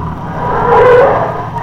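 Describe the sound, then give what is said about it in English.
A car rolls into the ambulance entrance of a hospital with a low engine rumble, then its brakes give a brief, loud squeal as it comes to a stop. “A few minutes later, they drove into the ambulance entrance of the Miles Memorial Hospital.”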